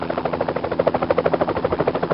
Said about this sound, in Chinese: 露丝，你听，那是什么声音？啊，飞机，是飞机！艾路易斯，开飞机来看我们了，我们出去看看。